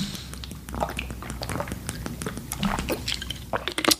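Someone takes a sip of water, with wet mouth clicks, soft slurping and a few gulping swallows over several seconds, no talking.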